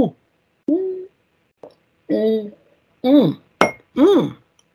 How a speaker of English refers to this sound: That was a good gulp, and I have finished my drink, and that always means the end.